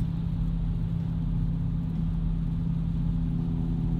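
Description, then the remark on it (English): A steady, low engine rumble hums continuously, like a car idling in traffic in Jersey, with strong low-frequency drone and no speech over it. “No, it didn't stop. Stupid traffic.”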